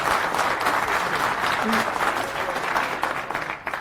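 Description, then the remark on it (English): An audience at FOSDEM Lightning Talks gives a warm welcoming applause to the speakers of a talk on LoRa Mesher, with dense, steady clapping that holds at an even loudness for several seconds before easing slightly at the end. No one speaks over it. “Give them a warm applause and welcome.”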